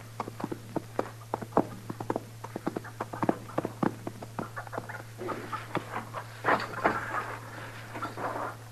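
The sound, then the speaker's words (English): Irregular hollow knocks of horse hooves clip-clopping at a walk, over a steady low hum, with a brief scuffling burst near the end. “Your horse has scared it away.”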